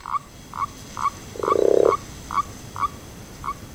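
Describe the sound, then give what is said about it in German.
Toads gathered at one of the Kreuzerteiche ponds to mate and spawn call: a steady series of short, bright croaks about twice a second, with one lower, longer rattling trill cutting in midway. No voices, just quiet background hiss. “Es haben sich schon einige Kröten nämlich hier versammelt, um eben zu laichen bzw. vorher das Liebesspiel zu betreiben.”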